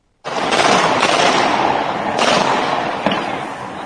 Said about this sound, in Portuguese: Em um dos diversos vídeos postados nas redes sociais, é possível ouvir disparos de metralhadoras, armas com rajadas e revólveres. Mais de 100 tiros foram relatados pelos moradores.